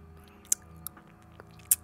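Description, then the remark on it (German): Wet mouth smacking from a particularly moist mouth, a few moist clicks and smacks, the loudest two about a second apart, with softer squishy mouth noises between them. No talking. “Ist mein Mund besonders feucht, kann ich Schmatzgeräusche machen.”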